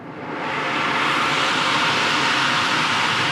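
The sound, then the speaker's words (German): The cold-water geyser at Andernach, on the Namedy Werth peninsula in the Rhine, Germany, erupts, shooting a water fountain high into a blue sky, with a loud, steady roar of rushing water that swells within half a second and stays constant, a dense hiss with no voices. “Ein kurzes Rauschen, dann schießt eine Wasserfontäne hoch in den blauen Himmel.”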